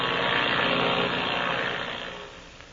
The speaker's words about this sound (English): Another plane, a powerful bimotored ship, is flying through the black night over that wild country.